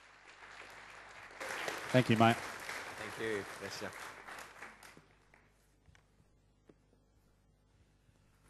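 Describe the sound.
A South Perth church audience breaks into dense, steady applause welcoming a guest speaker in the morning, swelling for a few seconds and then fading away, with a man's voice speaking briefly over the clapping before things go quiet.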